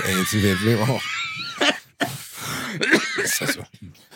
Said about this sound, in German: Hör doch mal auf, in das Mikro zu husten. Wie widerlich ist denn das?